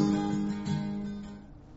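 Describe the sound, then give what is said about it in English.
A bumblebee or carpenter bee drones with a steady, low, throaty buzz that wavers slightly in pitch, then gradually fades as it drifts away, with no voices. “Got bumblebees or carpenter bees or something flying around all over the place.”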